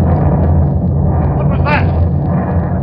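A deep, heavy explosion of a tube of nitroglycerin down near the water rumbles loudly throughout, a sustained low roar with a brief sharper crackle partway through, filling the whole moment.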